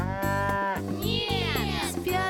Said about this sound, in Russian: Корова.